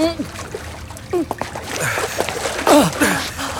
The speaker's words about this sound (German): Das Schwimmbecken. 3 Meter tief. Fällt ins Wasser. Geht unter wie ein Stein. Und kommt nicht wieder hoch.